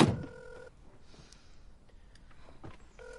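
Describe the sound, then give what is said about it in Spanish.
A car door thuds shut as a person gets into a car holding a mobile phone to the ear, followed by a phone ringing tone that repeats in short bursts over a quiet interior hush. “entra en su coche con el móvil en la oreja.”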